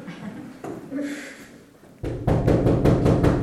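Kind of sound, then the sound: impact, knocking on a door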